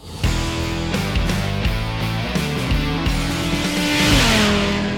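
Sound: engines starting and revving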